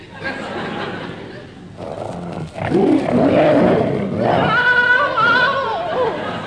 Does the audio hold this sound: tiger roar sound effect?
yes